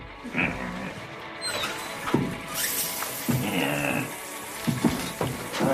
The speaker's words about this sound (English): She closes the floral shower curtain on him. He hesitates, then turns on the water.